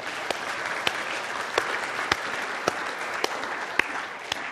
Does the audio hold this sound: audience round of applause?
yes